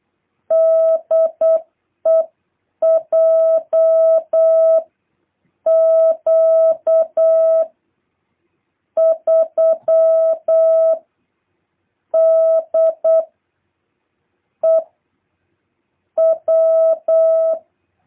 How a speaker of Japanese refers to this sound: 電信ではもう習ったと思いますけども、DE、ツーとトットから始まりますから。で、ツーとトットでコールサインを打ちますから、よろしくお願いいたします。